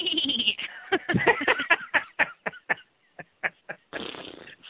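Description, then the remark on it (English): A person's voice mimics a horse whinny, a loud, quavering bleat that breaks into rapid pulses, slows into separate stuttering bursts, then ends in a short final rasp. “And I bet the horse is whinny throughout the entire thing, too.”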